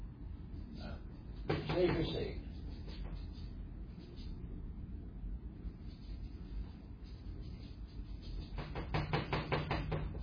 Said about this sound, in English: I want to thank Christ for building me this nice easel. This nice, squeaky easel.